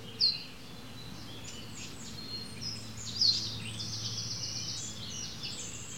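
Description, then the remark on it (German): A small wren sings a fast, loud, rattling, high-pitched song in bursts that run almost continuously, over a steady low background rumble, with no voices. “Der ist so klein, der Zaunkönig, der muss natürlich laut scheppern, dass man ihn zumindest hört, oder?”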